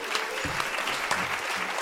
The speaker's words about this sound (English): Can we give a round of applause for that answer?